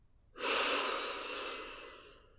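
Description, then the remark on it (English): A single slow, deep breath drawn in, a steady airy rush lasting about two seconds before tapering off, with no talking. It is a relaxing breath in for three seconds during a guided relaxation exercise. “Breathing in for 3 seconds.”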